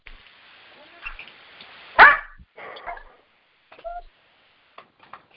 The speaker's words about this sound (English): Okay, if someone has a dog barking in the background, you might want to mute yourself.